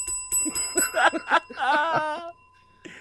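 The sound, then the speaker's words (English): A bell rings with a bright, sustained metallic tone that lingers for a few seconds, while voices cry out over it before it fades. “Give him the bell.”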